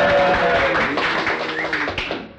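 A crowd claps steadily with scattered cheering voices mixed in, a dense, lively wash of applause that holds strong for a couple of seconds before easing slightly.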